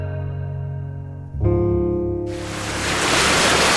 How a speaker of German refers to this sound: Das Rauschen des Meeres. Schön.